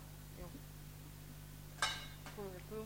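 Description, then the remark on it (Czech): A single metallic clank of a cold frying pan being handed over and handled, ringing briefly over a steady low hum, with a faint murmur of voice just after. “Tak, mám tady jednu pánvičku. Je to pánvička studená.”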